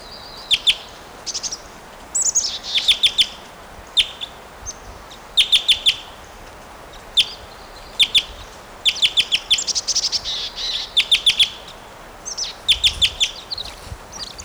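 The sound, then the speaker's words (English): A bird perched near cage 701 calls repeatedly in short bursts of sharp, high-pitched chirps, often in quick clusters of three or four, with brief pauses between groups over a faint background hiss. “He is giving some calls now.”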